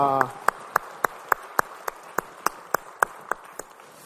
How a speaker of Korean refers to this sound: 올 한 해 주님이 기쁘신 찬양만 하기를 바라면서 우리 주님께 영광의 박수 올리겠습니다. 할렐루야.